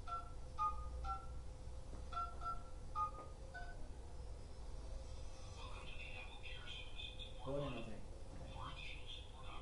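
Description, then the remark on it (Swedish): A series of short telephone keypad tones beeps out in quick groups as a caller dials through a customer service phone menu, followed by a muffled recorded voice speaking over a low background hum. “Men när jag ringer till kundtjänsten och hälsar välkommen, tryck 1 för den servicen, tryck 2 för den, tryck 3 för den. Så han trycker sig fram och så kommer han fram till en representant på kundservice”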